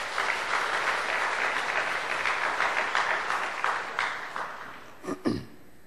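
A crowd at Dream Church claps steadily for several seconds for a Sunday school award recipient, a dense patter of many hands that thins and fades out near the end, with a couple of louder single claps at the close.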